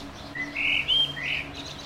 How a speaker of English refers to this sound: Is this your parrot? Yes, it is.